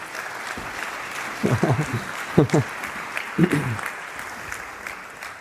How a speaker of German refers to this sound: Fetten Applaus für unser Team.